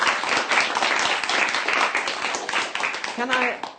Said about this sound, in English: Excellent. I think a little round of applause there for making that sound.